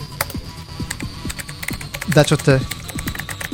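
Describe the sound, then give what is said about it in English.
Rapid, irregular clicks of someone typing a chat message on a computer keyboard, over a low steady hum, with a brief voiced sound rising partway through. “Oh, and now he's typing something.”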